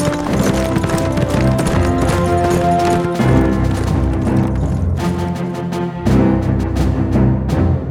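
Hooves clip-clop in a steady rhythm as three men ride off on horseback toward Israel, away from the rising sun, the hoofbeats sounding over a loud, continuous musical score with no talking.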